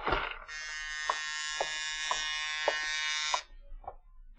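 A buzzer-style apartment doorbell sounds one long, harsh, steady buzz lasting about three seconds in the early evening, with faint regular taps underneath, then cuts off abruptly.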